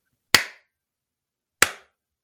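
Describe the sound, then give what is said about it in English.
Two sharp, crisp hand claps sound alone in silence in the woods, separated by a pause of just over a second, each with a brief ringing decay, answering a yes-or-no question where two claps mean no. “Clap once for yes and twice for no.”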